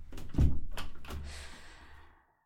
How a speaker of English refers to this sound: Sure. Just close the door behind you.